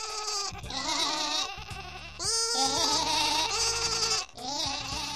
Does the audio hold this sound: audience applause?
no